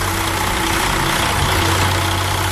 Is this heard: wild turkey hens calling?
no